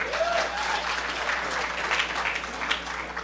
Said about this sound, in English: Applause, please.